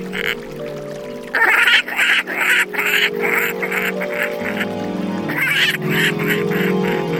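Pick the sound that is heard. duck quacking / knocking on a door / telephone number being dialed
duck quacking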